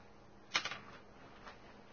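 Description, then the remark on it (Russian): Dice are rolled onto a hard surface during a tabletop game: a quick cluster of sharp clicks and clatters, then one faint tap a moment later. Fairly quiet, with no voices. “Кидай кубик.”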